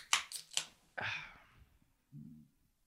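Three quick sharp clicks or clinks, then a brief splashy burst of cold brew pouring into a cappuccino cup that tapers off, followed by a soft low clunk. No one speaks.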